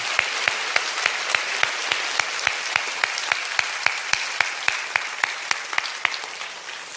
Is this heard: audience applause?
yes